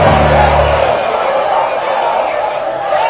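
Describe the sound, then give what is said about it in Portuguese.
A large audience at a show makes a loud, continuous chorus of voices imitating deep dog barks, a dense wall of overlapping woofs that stays steady for a few seconds. “Tem que latir grosso, eu quero ver latindo grosso, eu sei que tem pitbull na plateia aí.”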